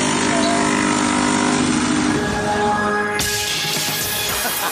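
A pop song plays, live-remixed with a coffee machine's steady mechanical whir blended into it, and a loud rushing hiss of steam swells in over the last second and a half. No one speaks.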